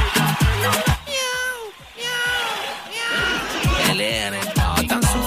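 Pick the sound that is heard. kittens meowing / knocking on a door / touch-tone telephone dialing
kittens meowing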